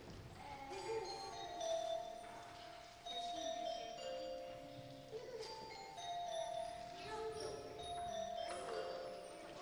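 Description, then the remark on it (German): A glockenspiel plays a run of bright, ringing metallic notes that step downward from high to low, each tone chiming clearly and overlapping the next, with faint background noise beneath. “Und das Glockenspiel?”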